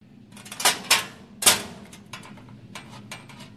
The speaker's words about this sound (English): Remember trying to open a school locker for the first time? Spinning the dial, holding a small slip of paper with the code, turning clockwise to the first number, then counterclockwise to the next, hopefully pulling on the lock.